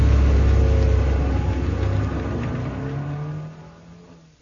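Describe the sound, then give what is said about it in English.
A car engine revs loudly and the car pulls away in Beverly Hills, its low rumble shifting in pitch as it accelerates, then fading over the last second. No one speaks. “You take the car. What a mess. And in Beverly Hills, of all places. The cops will be all over us. Just drive.”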